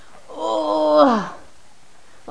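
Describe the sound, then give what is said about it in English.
An older woman lets out one long, strained groan of effort, fairly loud, sliding down in pitch as it ends, as she puts down someone who is getting heavy. A short quiet follows before another vocal sound begins. “Grunting and groaning and making all kinds of noise.”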